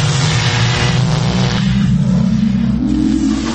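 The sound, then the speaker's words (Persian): A loud, continuous time-machine effect: a heavy mechanical rumble and whir that swells and climbs in pitch midway, like an engine powering up, with no voices. “بریم ببینیم آرتا امروز با این ماشین زمانش کجا سفر میکنه.”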